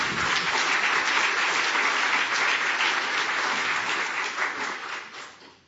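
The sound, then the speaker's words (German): An audience claps steadily in a dense, continuous burst of applause that holds strong for several seconds, then gradually thins and fades out at the end. No one speaks over it. “Ja, ihr dürft gern klatschen.”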